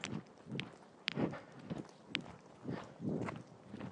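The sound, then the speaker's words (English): Footsteps of people passing on an evening riverside walk across the river from Chiswick, a steady series of soft thuds with a few sharper scuffing clicks, about two steps per second, moderately quiet with no talking. “People walking.”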